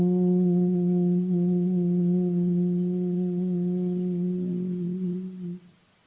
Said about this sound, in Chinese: 他敲了一个小钟，就用一个钟当敲了一下，然后他让你举起一个手，听着那个钟的声音，一直听到那个钟的声音彻底没有了，你就把手放下来啊。